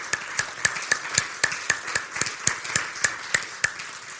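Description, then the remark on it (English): An audience claps together in a steady, even rhythm, sharp regular claps standing out over a dense wash of scattered applause, with no talking. They are clapping for everybody who gave their time that week to pray. “But before we go into this, I want to thank everybody, and I'm going to ask, let's clap for everybody that gave their time this week to pray.”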